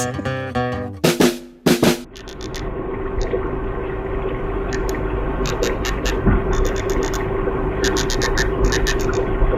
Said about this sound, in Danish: Jeg tror det er et øresvin. Så tror jeg det er et marsvin. Så er vi også nogenlunde enige. Jeg går ud fra, at du mener et marsvin under vand.